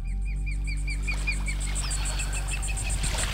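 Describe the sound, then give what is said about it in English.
A young eagle gives a rapid, steady series of high, thin piping chirps, with a continuous pulsing insect-like trill and a low background rumble throughout. “I think that's a baby eagle.”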